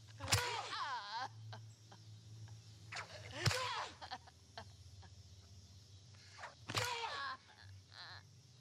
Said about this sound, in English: Did you hear the way she got whipped? Listen to this.